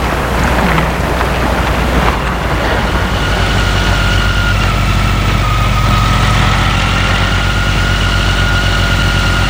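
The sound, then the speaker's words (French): A scooter engine runs loud, sputtering roughly at first before settling into a steady, buzzing idle with a faint whine, with no voices. “Et il prend son scooter.”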